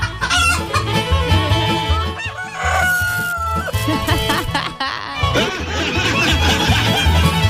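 Chickens cluck busily all around while a rooster crows loudly, the dense, overlapping calls of a lively flock filling the whole stretch.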